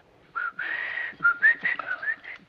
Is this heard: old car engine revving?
no